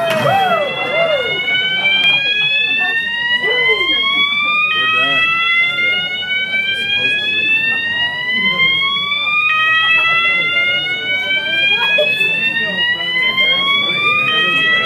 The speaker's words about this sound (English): I do believe that one of your kids just pulled the fire alarm upstairs.